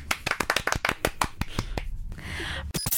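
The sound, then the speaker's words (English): Applause from a small group after 12 points are awarded to Israel in a song-contest style points vote: a quick, uneven run of sharp, bright hand claps, then a brief wash of hissy noise before a few final claps. No one speaks. “Let's get some applause there.”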